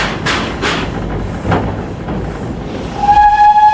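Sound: train running on rails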